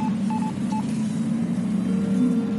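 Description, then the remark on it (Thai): A few short electronic dialing beeps in quick succession from a phone keypad as a caller at Columbia Heights Metro station phones a friend to ask for directions, heard over a steady low hum of background noise, followed by a faint sustained tone. “เธอจึงโทรศัพท์มาถึงแอนนาอีกครั้งเพื่อถามทางไป”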